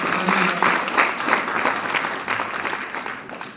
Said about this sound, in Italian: Un applauso.